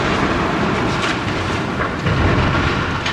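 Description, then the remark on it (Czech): A giant 52-metre-tall KU-800 excavator collapses in an explosive demolition by pyrotechnicians, heard as a loud, continuous rumbling roar with grinding metallic texture that stays heavy throughout, with no voices. “Rypadlo KU-800 vysoké 52 metrů, tedy téměř jako pražská Petřínská rozhledna, se pomalu začalo skládat k zemi.”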